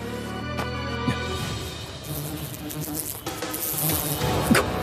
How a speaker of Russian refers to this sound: Муха.